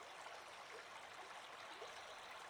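river stream flowing water

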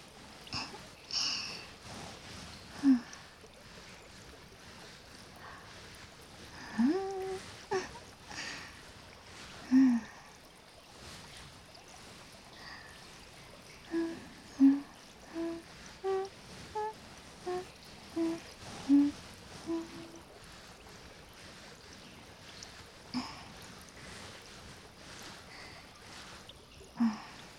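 shower water rinsing hair

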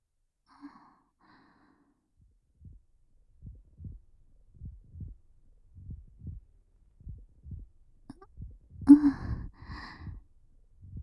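heartbeat

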